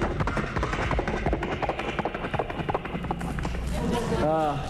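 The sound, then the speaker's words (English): A voice imitates galloping horses, with rapid, rhythmic clip-clop clicks and pops rolling steadily, ending in a brief whinny-like vocal sweep, performed as a vocal sound effect by an entertainer before an audience. “I do vocal sound effects, vocal interpretations, sounds from right in my vocal box right here itself. The sounds such as horses galloping.”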